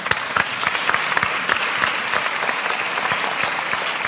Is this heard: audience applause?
yes